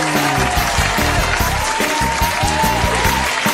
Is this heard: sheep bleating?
no